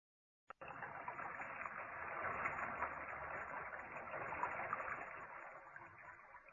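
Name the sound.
shower water running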